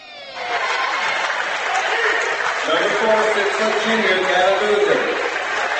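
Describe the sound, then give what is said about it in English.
A large crowd filing into the Rushi High School gym before tip-off fills the space with a steady, loud murmur of overlapping voices, and one voice becomes distinct partway through. “The crowd is still filing in here at Rushi High School. We expect it to be full by tip-off time.”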